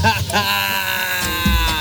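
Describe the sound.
A voice fakes exaggerated, comedic crying like Chiquinho from the show Chaves, a wavering, bleating wail that rises and falls over about two seconds, loud with no other sounds around it.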